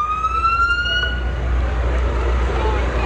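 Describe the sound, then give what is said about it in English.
A fire truck siren wails loudly over low rumbling traffic noise, its tone gliding slightly downward before fading out midway as the vehicle moves off. “I think they have radios in the fire trucks”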